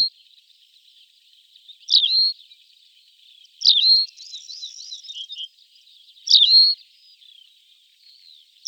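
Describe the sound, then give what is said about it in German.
A long-legged, long-tailed songbird sings perched on a small shrub in a desert, in short, bright phrases of sharp rising notes at about two-second intervals, with thin twittering between them, clear against a quiet background. “Und dann, wenn er dann einen Strauch findet, einen kleinen in dieser Wüste, dann setzt er sich drauf und singt.”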